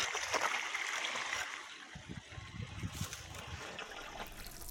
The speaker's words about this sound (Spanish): Ahora está abriendo el tornadero para regar otro surco.